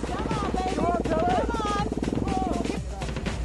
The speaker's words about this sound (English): Ah, there is the sound, the reassuring sound of that fantastically powerful putt-putt-putt engine.